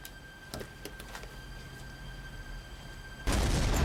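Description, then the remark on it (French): A low electrical hum and a few faint clicks, then a sudden loud explosion bursts in near the end, a dense roaring blast that stays loud to the finish. “Mais à 2 heures du matin, le bruit d'une explosion le fit se précipiter à sa fenêtre.”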